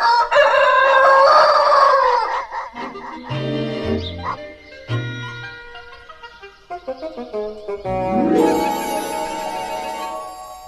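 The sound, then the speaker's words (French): A rooster crows loudly for about two seconds with a wavering, harmonic call, then a short musical jingle follows, with plucked bass notes and a bright, swelling finish. “Tu emportais le coq, tu n'emportes plus que du vent.”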